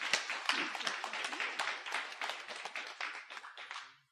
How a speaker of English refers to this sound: Wow, great job, everybody. Right? It feels like it's let's give a round of applause again.